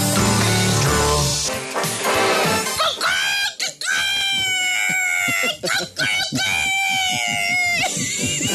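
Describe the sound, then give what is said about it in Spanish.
A person imitates a rooster crowing with several long, strained, high-pitched wavering cries, loud and shrill, following a brief burst of noisy background sound. “Dime si tú sabes cómo hace el gallo.”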